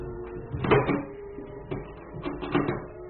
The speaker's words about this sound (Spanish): Cierra la puerta, corre los cerrojos.